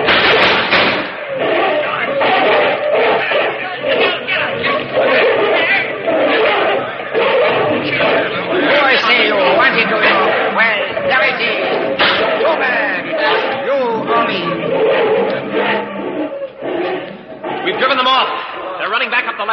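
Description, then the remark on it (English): A rowdy brawl up ahead in the dark: many voices yell and shout over one another while heavy thuds and blows land repeatedly, the whole scuffle loud and unbroken for the entire stretch. “There's a fight going on up ahead.”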